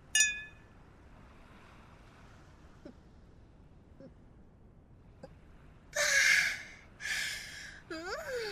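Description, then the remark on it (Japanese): Glasses clink once in a toast with a bright, brief ring, followed by several seconds of near silence with faint small taps, then a few loud breathy exhales like satisfied gasps after drinking a strong local liquor. “では、出会いの夜に乾杯。”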